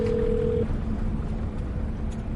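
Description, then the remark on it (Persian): A short telephone tone sounds for about half a second as a phone call is placed, then cuts off, leaving a steady low line hum and rumbling background noise. No one speaks. “ببین به اون یارو که قرار ما رو از مرز رد بکن الان زنگ بزن بگم داریم تماس بگیر.”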